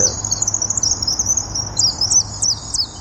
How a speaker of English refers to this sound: How to get the swifts to use their new birdhouse? They've got the bird poop and one other trick that might bring them in. A recording of swift calls played through a loudspeaker. We have half a dozen tracks, and let's turn up the sound.